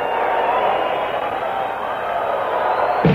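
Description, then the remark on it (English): A large live audience cheers and applauds loudly and continuously, a dense wash of voices and clapping that swells steadily without pause, with no clear speech. “You are a great crowd.”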